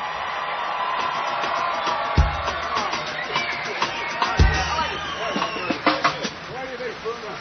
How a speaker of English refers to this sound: How about a nice round of applause and congratulations to … on the bass.